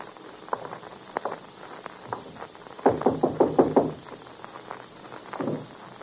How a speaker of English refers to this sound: Now listen, we'll knock once. The door isn't open. We'll kick it in.